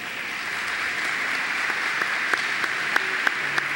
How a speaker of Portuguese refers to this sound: ela realmente merece as palmas por conta de sua coragem, como citamos a início.